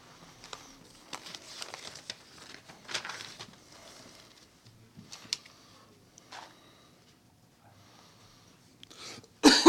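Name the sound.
coughing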